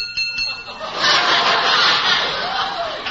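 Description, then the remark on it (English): A few light taps on a head turned to glass, like a fishbowl, give off thin, high ringing tones at the start. Then a broad wash of crowd-like noise and murmuring takes over and drowns them out. “You mean glass? Real glass? Yes, yes. Listen, I'll tap it.”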